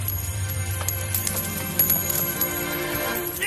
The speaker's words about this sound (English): he overturned the tables of the money changers and scattered their coins.